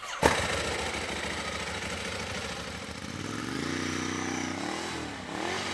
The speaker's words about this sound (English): And when he got back from Iraq, he got himself a present. A brand new motorcycle. It's a Ducati 1098S, red.